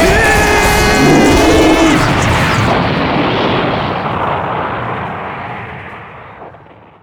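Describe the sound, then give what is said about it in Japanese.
A single loud, booming explosion from a character's all-out attack in a drama bursts out with a bright tonal whine at the start, then rumbles and crackles as it slowly fades away over several seconds. No one speaks. “何か爆発したみたいな音だよ。ヒーローの必殺技みたいな。”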